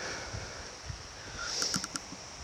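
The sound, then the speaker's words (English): Wind gusts outdoors, a steady low rumble with soft buffeting, joined near the end by a few quick high-pitched ticks. “And it's windy as shit.”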